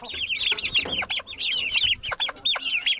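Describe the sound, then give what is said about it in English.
Several chickens on a chicken farm cluck and chatter continuously, overlapping calls forming a busy chorus with no voices. “The 31-year-old Moses Julius Shibaya had dreamed to be a journalist, but due to lack of job opportunities, he turned a chicken farmer.”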